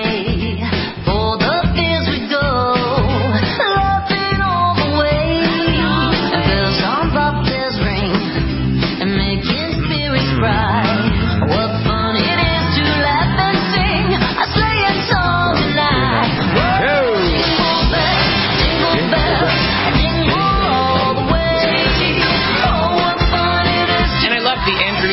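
Upbeat pop rendition of a Christmas song, with lively vocals over a steady beat and bright, dense instrumentation playing loudly and continuously throughout.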